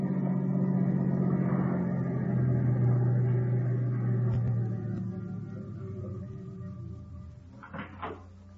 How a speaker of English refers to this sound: There's a car coming now